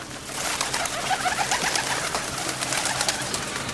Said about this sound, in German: In jedem Parkhaus, in jedem Bahnhofsgebäude, überall sind Vögel.